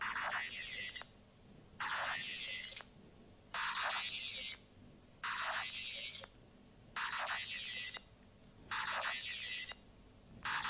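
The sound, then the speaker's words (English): A harsh electrical whine from an LCD monitor pulses on and off in a steady rhythm, about six one-second bursts separated by short quiet gaps, with no voices. “This is probably my LCD monitor, and let's move it.”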